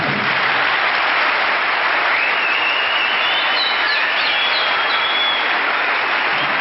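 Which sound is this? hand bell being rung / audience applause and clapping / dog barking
audience applause and clapping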